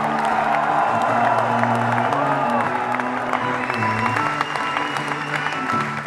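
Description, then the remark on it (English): A large concert audience in Paris applauds steadily with scattered cheers, a dense, continuous roar of clapping over sustained band chords that hold throughout the six seconds. “And the biggest round of applause goes to you, Paris.”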